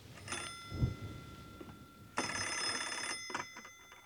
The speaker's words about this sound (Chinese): 突然电话铃响了，宋柯走过去接电话。那电话里没有声音，然后对方好像是把电话挂断了，话筒里是一片盲音。